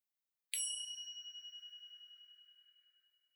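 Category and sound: signal or alarm, meditation chime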